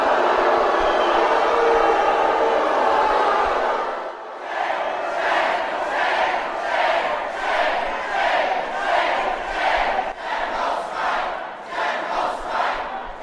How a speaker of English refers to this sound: When news of the Senate vote passed through the crowd, it erupted.